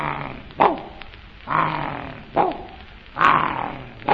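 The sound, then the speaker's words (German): A dog gives four deep, rough barks at an even pace, each one loud, with short pauses between them and no talking. “Wie das der Hund hört, fragt er.”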